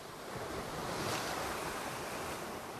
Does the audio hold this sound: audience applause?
no